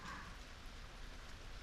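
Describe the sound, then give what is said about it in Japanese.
Steady rain patters down in a soft, continuous hiss of drops hitting a surface, fairly quiet and even throughout with no voices. “ポツポツって。”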